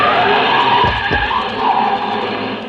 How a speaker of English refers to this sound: It was a short trip because a car started up down the street and the old man couldn't have made it with a pocket full of aces.